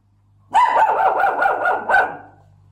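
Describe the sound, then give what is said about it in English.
A dog barks loudly in a quick, continuous run of about half a dozen rough barks lasting roughly two seconds, with a low steady hum in the background, as Albuquerque Police Department officers announce their presence. “Hey, puppy.”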